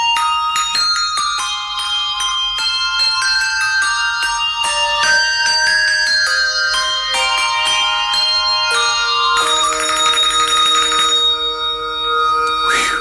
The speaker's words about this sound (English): the kisses are recast as a set of bells playing We Wish You Merry Christmas